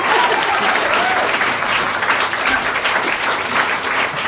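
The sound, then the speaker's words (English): An audience at an awards moment for volunteers who help run the group Transform breaks into sustained applause, a dense, steady wash of many hands clapping at an even loudness throughout, with no voices standing out. “Clap.”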